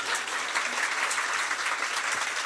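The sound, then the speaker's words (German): Steady applause from a crowd, dense overlapping clapping that holds at an even level throughout the short stretch with no voices standing out. “Wir brauchen das auch im Podcast, so ein Nippelboard, dass wir das so geklatscht wird.”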